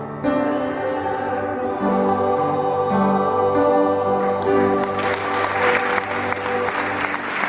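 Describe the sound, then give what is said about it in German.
Sustained musical notes ring out, then a concert audience bursts into loud, steady applause, a dense crackle of many hands clapping that continues to the end. “Ja, und so ein Applaus, der tut dir gut.”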